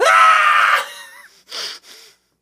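A boy lets out a loud, strained scream lasting nearly a second, which trails off into two short, breathy gasping cries. No speech accompanies it.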